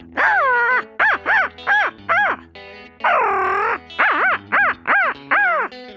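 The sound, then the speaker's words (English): A man's voice mimics a crow as a natural voice call, giving a long caw followed by a quick run of short, harsh caws, then another drawn-out call and a second burst of clipped caws, loud. “Crow call.”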